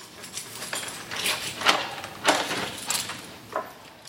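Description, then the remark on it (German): A key scrapes and turns in the door lock of the city archive, locked by its long-time archivist, giving a series of sharp metallic clicks and rattles spread over a few seconds, with no voices. “Er trat der Schlüssel im Schluss, der Emil Erne, der Mann, der mehr als 2 Jahrzehnte lang zu allem geschaut hat, wo die Stadtbären aufbewahrt.”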